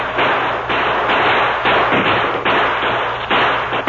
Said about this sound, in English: Have the men fire toward them to keep them back. Right, sir. Open fire! Hold the Indians back!